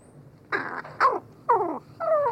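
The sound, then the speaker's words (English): A crow's soft courtship song: four short, throaty calls close by, mixing low cooing tones with rough growl-like notes, evenly spaced over a couple of seconds with no talking. “Instead, they sing softly and at close range during courtship, with a rich mix of soft cooing, rattles, growls, bowing movements, and mutual nuzzling.”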